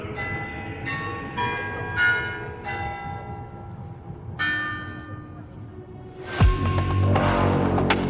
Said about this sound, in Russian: куранты Московского Кремля исполняли звон, мелодию «Коль славен Господь сегодня»